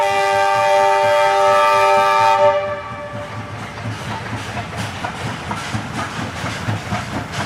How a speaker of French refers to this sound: Voilà, c'est les derniers trains à vapeur de Chine. Il y a encore quelques lignes de trains à vapeur, de locomotives à vapeur en Chine.